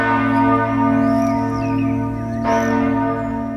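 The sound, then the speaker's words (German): A church bell at St. Michael's Church in the town of Zug rings at midday for a quarter of an hour, for the first time in about 200 years, its deep, sustained tones overlapping in a continuous resonant wash that stays loud with no voices present. “Krise-Glocke heisst die Glocke, die heute Mittag in der Stadt Zug bei der St. Michael-Kirche eine Viertelstunde lang geläutet hat.”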